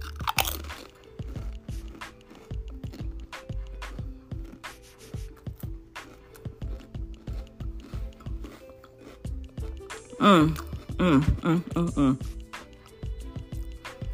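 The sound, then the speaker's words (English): Loud crunching of chips, with steady repeated bites and chewing throughout; a voice briefly sounds partway through. “And what I'm crunching on right here is these chips.”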